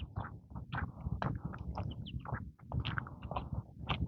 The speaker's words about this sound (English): Listening to the birds. There's a bird chittering somewhere.